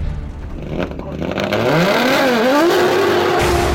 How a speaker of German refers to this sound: Und dann habe ich irgendwann gesagt, Herr Röhrl, aber der Motor ist jetzt schon warm, jetzt können Sie schon mal Gas geben.